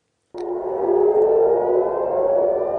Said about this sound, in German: Am Nachmittag heulten wieder die Sirenen im Großraum Tel Aviv.